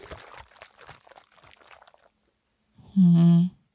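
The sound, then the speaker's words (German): Water sloshes and gurgles inside a hot water bottle in soft, irregular splashes for about two seconds, then after a short pause a loud, steady low-pitched tone sounds briefly. “aber nur nicht im Gefrierbeutel, sondern in der Wärmflasche”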